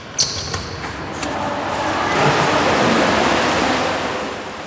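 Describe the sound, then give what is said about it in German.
Ambience of the indoor swimming hall of a youth palace, with bright granite and floor-to-ceiling windows: a steady, hissing wash of splashing water that swells slightly midway, with a few sharp slaps early on and no voices. “Dahinter ist eine Schwimmhalle.”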